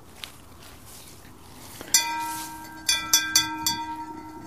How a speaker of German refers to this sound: Also natürlich völliger Quatsch, am Klang der Glocke den Landkreis zu erkennen. Das war Philosophenlatein.